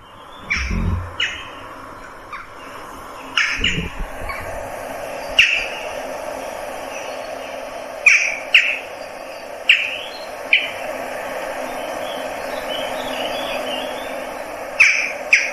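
Sharp, short jackdaw calls ring out repeatedly at irregular intervals, loud, over a steady outdoor background hum with a couple of low thumps near the start.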